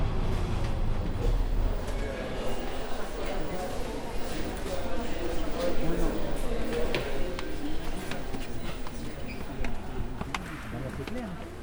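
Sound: metro train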